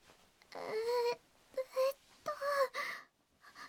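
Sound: crying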